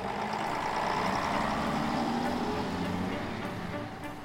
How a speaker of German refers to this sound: Skadi Seger wird vom Geräusch des anfahrenden Busses geweckt.